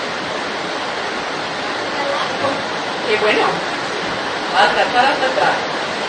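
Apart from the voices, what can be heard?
heavy rain falling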